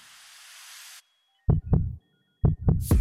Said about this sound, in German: Als er schließlich aufwacht, spürte er einen Herzschlag. Ich hörte dann zum ersten Mal wieder dup, dup, dup, dup, also Puls.